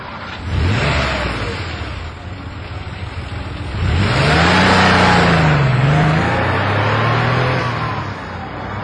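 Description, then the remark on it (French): A car engine revs up loudly, with rising and falling pitch sweeps as it accelerates and pulls away, the engine roar filling the scene with no talking. “Et voici Noël qui vient de monter dans la voiture de cette étrange jeune dame”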